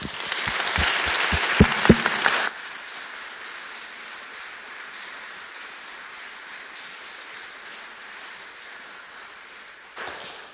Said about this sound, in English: We've said goodbye, but I think just for the record, for the APCM minutes, it would be appropriate for us all just to give them a big round of applause to say thank you very much.